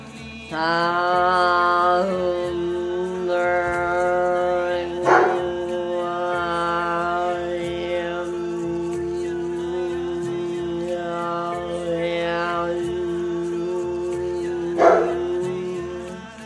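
A dog barks and vocalizes, long drawn-out wavering tones that rise and fall continuously, punctuated by two sharper, louder bursts spaced well apart.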